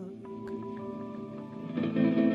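An instrumental passage of a song plays alone, with sustained, echo-heavy tones and a few plucked accents, swelling a little louder toward the end.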